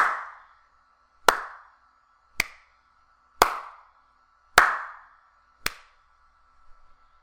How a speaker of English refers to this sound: I'm comparing it to the Audio-Technica AT2005 USB microphone, which is a dynamic microphone, and the Blue Snowball is a condenser microphone. I'll now do some clap tests. This is with the Blue Snowball microphone.